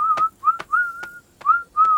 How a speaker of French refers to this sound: Ogi leur fait un petit adieu et part en sifflotant.